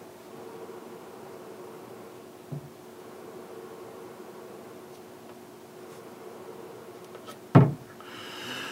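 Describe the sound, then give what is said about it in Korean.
A steady, low computer fan whir, louder because a door is open, hums throughout with a faint constant tone, broken by a soft knock early on and a sharper thump near the end. No one speaks. “이거는 컴퓨터 들어간 소리야. 어쩔 수 없어. 컴퓨터 소리가 문을 열면은 더 많이 나죠.”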